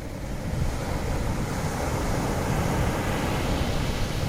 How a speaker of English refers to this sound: He imagines that the minutes that make up our lives are very much like these waves moving toward shore, being replaced one after another as each one comes to an end, struggling forward to their ultimate demise.